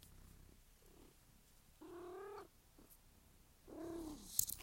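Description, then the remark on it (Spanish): An annoyed cat lets out two drawn-out, slightly grumbling meows about two seconds apart, moderately loud, against a quiet background with no one talking. “Ya, pero igual se escuchó el miau.”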